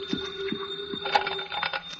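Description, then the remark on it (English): A telephone rings with a steady, sustained tone broken by short repeating pulses, moderately loud, with no voices over it. “You'll pardon me, Captain. The phone.”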